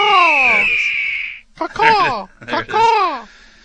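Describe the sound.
A voice imitates a falcon's screech, in reference to the Atlanta Falcons: one long, strained, high cry, then two shorter squawks that slide downward in pitch. Loud and alone.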